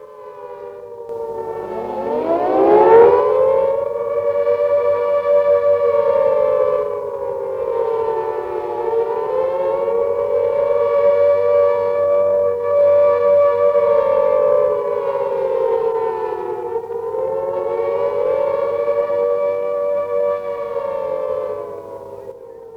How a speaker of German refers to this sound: Deutsche Männer und deutsche Frauen, hört ihr das Signal für ABC-Alarm?